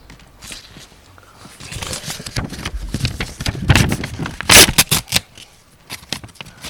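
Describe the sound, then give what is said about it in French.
Paper crinkles and rustles in a dense run of irregular crackles, swelling to a louder, sharper burst just past the middle before trailing off into lighter rustling. “Et des papiers.”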